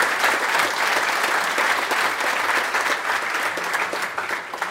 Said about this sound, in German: Das ist dein Applaus, ja.